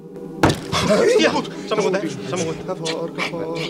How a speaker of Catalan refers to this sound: Si ets aquí, fes-nos un senyal. La taula fa un bot.